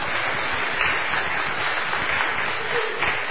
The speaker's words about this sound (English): Go ahead and clap. It's just worth clapping for.